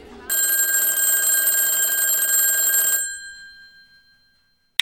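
A telephone bell rings in one sustained, loud metallic burst lasting nearly three seconds, then cuts off and its ringing tone fades away, followed by brief silence before another faint onset.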